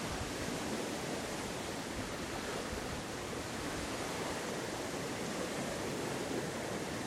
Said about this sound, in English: Don't know if you can hear the water much.